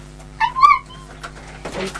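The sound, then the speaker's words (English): A person imitates a duck with a couple of short, nasal, quack-like calls, fairly loud, while teaching the letter Q, followed by a brief rustling noise. “What sound does a duck make? Quack.”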